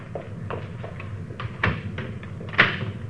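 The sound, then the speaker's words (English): A door swings shut with a few soft knocks and handle clicks, ending in a sharper latch snap, over a low hum; no one speaks. “Closing that so they won't know anybody's been here, huh?”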